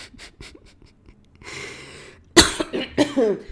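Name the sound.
coughing with phlegm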